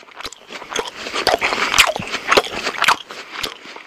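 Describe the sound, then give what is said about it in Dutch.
Loud chewing with wet lip-smacking and crunchy bites, repeating in an irregular rhythm for a few seconds, sounding amplified and intense with no voices, demonstrating how a person with misophonia hears smacking sounds. “En dit is hoe iemand met misofonie smakgeluiden hoort. Veel intenser en veel sterker.”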